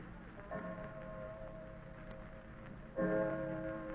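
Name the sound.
clock chiming the hour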